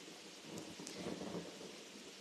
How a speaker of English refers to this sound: I don't know if you can hear that or not. I'm assuming you can hear the thunder. It's kind of rocking.